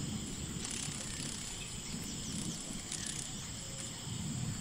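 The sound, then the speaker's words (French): A steady, dense drone of cicadas buzzing on a very hot afternoon in French Guiana fills the air without pause over a low outdoor rumble, fairly loud and constant throughout with no voices. “Les cigales émettent alors un bruit de grissement et on entend les battements d'ailes des libellules.”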